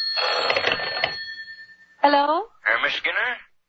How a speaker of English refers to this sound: A few minutes after the grandfather clock struck 11, the telephone rang.